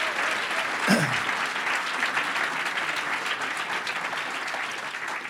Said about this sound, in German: Aber ich glaube, gerade diese Leute haben einen besonderen Applaus verdient. Danke für das. Danke.